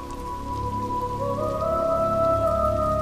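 Steady, heavy rain pours down in the southern Serengeti as the long-awaited rains arrive, a dense continuous hiss of drops striking the ground, with a faint sustained tone running underneath and no voices.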